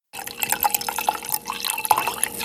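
A person urinating: a steady stream of liquid splashing and trickling, with bright dripping accents throughout, starting abruptly after a brief silence and holding at a fairly even loudness. No voices.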